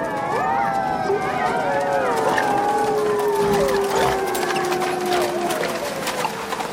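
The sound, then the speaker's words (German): Several wolves howl together in long, overlapping, wavering tones that rise and slowly fall, loud and sustained throughout over a steady rushing background noise; a Francis Ford Coppola film scene of Jonathan Harker's night coach ride through Transylvania, with the coach sounds held back. “Die Geräusche der Kutschfahrt, eigentlich dominierend, nimmt Coppola zurück und stärkt das Heulen der Wölfe.”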